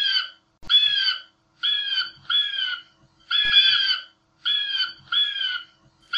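An eagle screeches over and over, about seven harsh, raspy calls in quick pairs with short pauses between, loud, with no voices.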